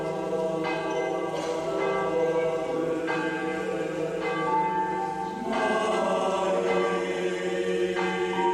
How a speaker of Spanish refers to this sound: Repicar de campanas, qué bonito. Pues son las campanas de uno de los iconos de Rascafría, su monasterio, porque el 29 de agosto de, ojo, 1390, hace mucho tiempo, el rey Enrique III de Castilla decide que se construya aquí este monasterio cartujo